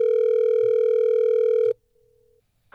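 One long, steady telephone ringback tone from an outgoing call placed by the Hot 101.5 radio show buzzes for nearly two seconds, then cuts to near silence before a voice briefly starts at the very end.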